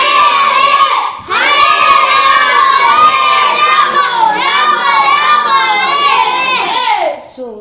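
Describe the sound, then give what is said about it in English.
A crowd loudly chants Hare Krishna in unison, many raised voices roaring together in long, sustained phrases that swell twice before breaking off near the end. “he would roar the names of the Lord. Let us try once. Hare Krishna! Hare Krishna! Krishna! Krishna!”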